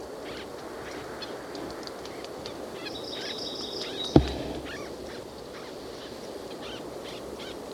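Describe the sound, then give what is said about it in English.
Faint, squeaky nasal calls of two white-breasted nuthatches in the same tree repeat irregularly over a steady rush of wind, with a brief thin whistle partway through and one sharp click. “Aiming at white-breasted. Two in the same tree. And now I'm aiming at the lower. Moving down. They're both making low squeaky noises.”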